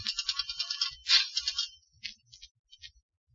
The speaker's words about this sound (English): I left the library and headed for the corner drugstore. I found a phone book, dialed the Times Express.